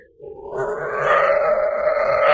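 A wolf growls in a deep, rough, sustained rumble that swells and holds steady for a couple of seconds, loud, with no voices.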